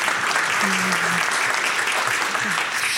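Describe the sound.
Steady audience applause fills the room, a dense wash of many hands clapping at an even level for the full few seconds, with faint voices murmuring underneath.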